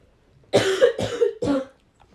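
cough

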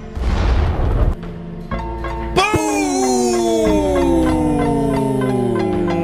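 explosion sound effect

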